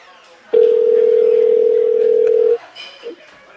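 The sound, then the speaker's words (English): A single steady ringback tone sounds for about two seconds on an outgoing phone call, a clear electronic hum heard through the phone line, followed by faint background murmur. “Should be ringing.”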